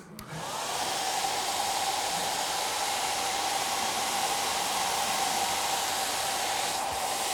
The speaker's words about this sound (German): Der Föhn unterbricht was, diese Schwerkraft. Er hat den Ball getragen durch seine Luft. Eine unsichtbare, aber doch eine Wirklichkeit kommt hier ins Spiel.